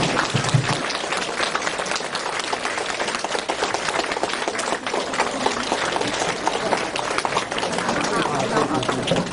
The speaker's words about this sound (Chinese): 热烈的掌声欢迎我们的尊敬的卢台长，谢谢。